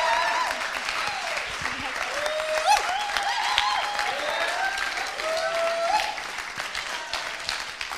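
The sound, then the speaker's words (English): Steady audience applause after a prayer, given as a round of applause for a woman: a dense crackle of many hands clapping at once, with a few whoops and cheering voices rising above it. “Okay, let's give her that round of applause.”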